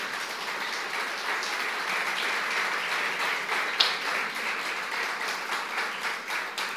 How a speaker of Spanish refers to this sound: Ponte de pie, mi hermano querido, por favor. ¿Qué tal si levantamos al Señor un aplauso de gratitud?